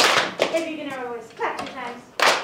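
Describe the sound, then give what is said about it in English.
A voice speaks, then a group of children claps once in unison, a single sharp burst of many hands landing together at the end. “All right, if you can hear my voice, clap once.”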